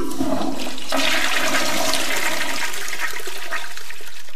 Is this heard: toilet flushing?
yes